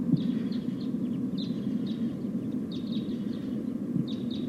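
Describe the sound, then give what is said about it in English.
A flock of about 5 or 6 type 2 crossbills calls as it flies over: repeated short, high chip notes in quick clusters from several birds, heard over a steady low rumble of wind or traffic. “It sounds like a flock of type 2 crossbills is flying over.”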